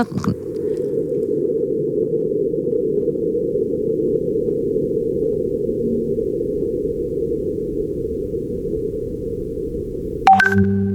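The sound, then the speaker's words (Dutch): Seismometer recording of Martian wind: a steady, low, muffled rumble lasting about ten seconds, with a very subtle marsquake barely standing out from it, then a brief change in sound at the end. No talking. “Maar dit is dus een Marsbeving die we horen. Ja, wat we eerst hoorden was wind op Mars.”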